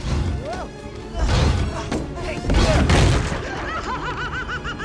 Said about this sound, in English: Projectiles blast from Giant Pete's cannon arm as the chipmunks run.